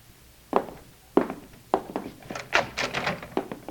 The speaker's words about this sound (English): Footsteps and door open.